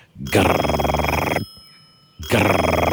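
An old-fashioned telephone ring, heard while calling a number, sounds in long, loud bursts with a rapid rattling tremble, pausing briefly between rings, with no voices over it.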